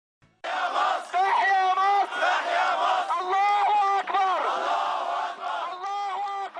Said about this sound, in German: Ja, so hat sich das angehört. Im Januar 2011 in Kairo, Gottes Gruß rufen die Menschen da. Hunderttausende sind 2011 auf die Straße gegangen, und zwar Christen und Muslime gleichermaßen, um gegen Präsident Mubarak zu protestieren